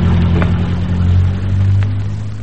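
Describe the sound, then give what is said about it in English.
A car engine drones loudly as it goes by without stopping, a steady low rumbling hum that swells slightly midway and then eases off a little, with no voices. “There goes another car past without stopping.”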